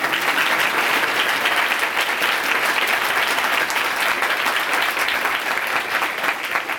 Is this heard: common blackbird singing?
no